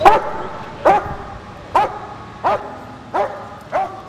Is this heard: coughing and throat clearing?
no